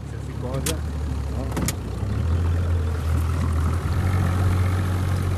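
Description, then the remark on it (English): A motorboat engine drones steadily on a boat trip across Porto Novo's bay, a low, continuous rumble that grows slightly louder partway through, with a couple of brief splashy knocks and muffled voices underneath. “A boat trip across Porto Novo's bay to see the reef covered with gleaming black moscioli.”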